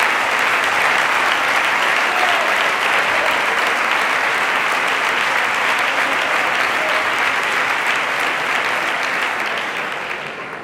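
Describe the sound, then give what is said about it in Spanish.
A large audience at a Partido Popular election-results speech claps steadily and loudly for about ten seconds for the new mayor of Guaro. The applause is a dense, sustained wash that begins to taper off at the very end. “En la comarca de Málaga, donde además hemos conseguido 2 diputados provinciales más y donde también tenemos un nuevo compañero, alcalde de Guaro, que también merece un fuerte aplauso.”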